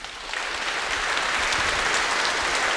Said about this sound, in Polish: My wszyscy, myślę, że powinni otrzymać wielkie brawa.